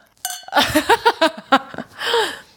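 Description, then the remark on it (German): Glasses clink together in a bright toast, their ringing tone quickly joined by a burst of rhythmic laughter and a breathy voice. “Prost!”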